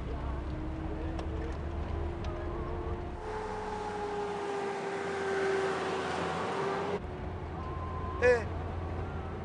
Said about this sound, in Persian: یه ماشین داره میاد بالا، بلکه هم داره میرسد. براش چراغ بزن وایسه. چراغ بزن.